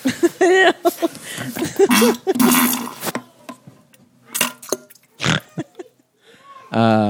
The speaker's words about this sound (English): That was sent to us. That's a listener submitted fart and poo just for you guys.